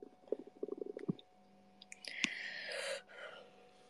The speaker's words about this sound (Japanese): ゲップが出そうだぞ。